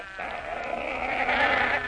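A goat bleats in one long, wavering, nasal cry that lasts nearly two seconds, loud, with no one talking over it.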